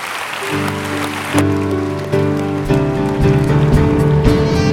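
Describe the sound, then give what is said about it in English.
After a prayer, a crowd gives a clap offering, clapping and cheering in a steady, dense wash of applause while sustained keyboard chords swell underneath, shifting to new chords as the music builds. “Would you seal what we've learned today with a clap offering?”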